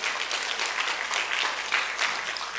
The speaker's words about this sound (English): You can give a clap offering because 啊, 你可以感谢神。